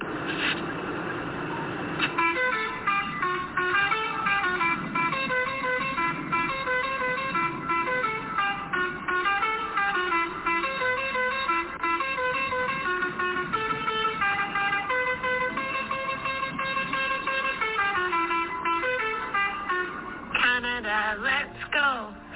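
Truckers' truck horns blare almost continuously for over twenty seconds, several overlapping tones layering into a sustained, wavering chorus of honking.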